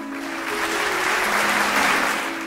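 Loud, sustained applause from a crowd for campaign participants from the Jhabua, Sheopur and Alirajpur districts, a dense wash of clapping that swells slightly and holds steady for a couple of seconds, with no voices over it.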